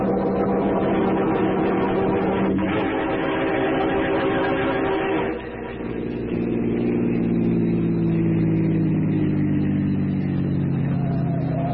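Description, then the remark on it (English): A car engine runs steadily and loud, shifting pitch as it accelerates, with a brief dip in the middle before the motor pulls away again with a droning hum. “I got my car outside so we can get there ahead of Parker.”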